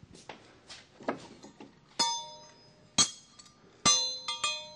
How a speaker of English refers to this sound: They'll call you back to class. This is the bell that bring me back to class.